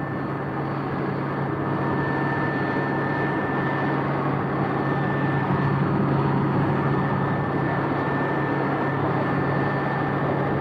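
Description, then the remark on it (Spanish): A steady, loud helicopter drone heard while the aircraft approaches a city again: rotor blades and engine roar continuously, with a low hum and a thin high whine running through it for the whole stretch, no voices. “El ruido se intensifica, procedente del que producen desde el exterior las aspas del aparato.”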